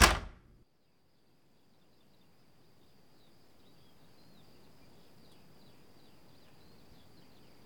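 A door shuts with one sharp bang right at the start, then a quiet room tone lingers with a faint steady high whine and soft low rumble.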